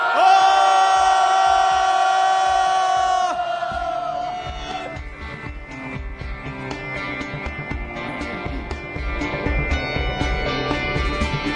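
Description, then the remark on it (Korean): A large crowd gathered for a final mass in Yongsan lets out a loud, sustained cheer on a cold day before the first song; many voices shout and whoop together, and the roar holds strong for a few seconds, then continues as a rougher, scattered mass of yells. “예, 우리 먼 길 끝까지 무사히 잘 가자고 추위도 날릴 겸 우리 자신에게 다짐도 할 겸 함성 한번 크게 지르고 첫 곡 시작하도록 하겠습니다.”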